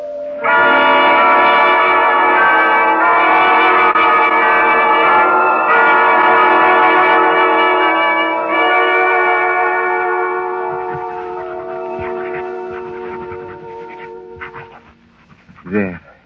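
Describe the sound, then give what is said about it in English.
Church bells peal loudly and continuously, their overlapping ringing tones blending into a dense, sustained clangor that gradually fades toward the end, followed by a brief muffled thump. “Try to stop those church bells.”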